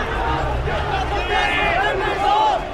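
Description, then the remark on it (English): A large protest crowd in Cairo chants and shouts together, a dense roar of many raised voices with rising and falling yells cutting through, sustained, with no clear individual speech. “Chanting and shouting, crowd are coming my way now, as is a bit of the tear gas.”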